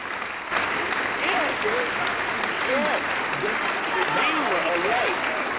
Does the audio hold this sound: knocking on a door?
no